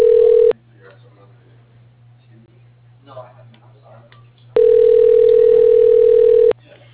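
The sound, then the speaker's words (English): A loud, steady telephone dial tone after a disconnected call, amid phone issues, sounds briefly, cuts off to quiet, faint murmuring, then returns for about two seconds before stopping abruptly. “Sorry we got disconnected. I've been having phone issues on and off.”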